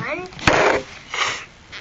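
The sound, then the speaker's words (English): A child with a runny nose sniffs twice after blowing the nose, two short, airy bursts of breath drawn in through the nose, with a brief bit of voice just before the first. “Let me hear you sniff.”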